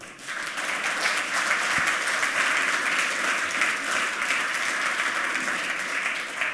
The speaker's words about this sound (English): please give him a warm round of applause. Welcome.